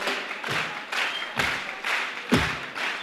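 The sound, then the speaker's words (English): Steady rhythmic hand clapping at about two beats per second, each loud accent carrying a dull low thud, over a constant wash of scattered claps and crowd noise. “keep it clapping.”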